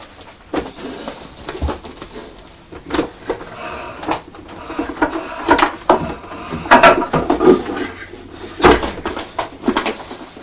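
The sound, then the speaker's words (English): A cupboard door is opened and shut as a wrapped present is put into the cupboard, amid a busy stretch of knocks, clatters and scraping handling noises, fairly loud, with no talking. “Oh, you're going to put it in your cupboard?”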